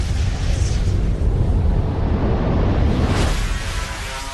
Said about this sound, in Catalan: Paradise is totally destroyed. At least we were able to survive the blast.